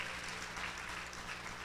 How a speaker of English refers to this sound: Come on, somebody give the Lord a hand clap if you believe that this morning.